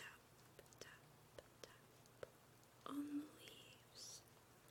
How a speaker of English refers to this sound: Now, listen to the rain.